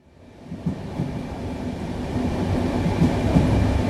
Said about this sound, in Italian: La sera del 4 agosto c'è un treno espresso numero 1486, proviene da Roma e, attraversando il Brennero, è diretto verso Monaco di Baviera, è un treno notturno.